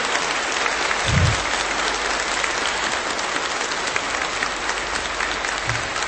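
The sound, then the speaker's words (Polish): An audience in Szczecin applauds in greeting, a steady, dense wash of many hands clapping at an even level throughout, with no voices heard over it. “Raz jeszcze oklaskami pozdrawiamy Ciebie ze słonecznego Szczecina.”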